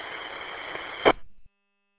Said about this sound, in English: I can hear you in there partially, but I'm just getting mostly static.